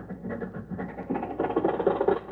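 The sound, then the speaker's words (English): An old Maxwell car's motor sputters and chugs in a steady, uneven rumble, voiced by a person imitating the engine, growing slightly louder and rougher toward the end. “Oh, boy, listen to that motor purr.”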